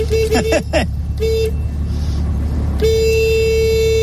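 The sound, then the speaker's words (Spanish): A SEAT 600 historic car's horn honks several times: three quick beeps, a short blast, then one long sustained honk, over low engine rumble and background chatter. “Así suena el claxon de un 600.”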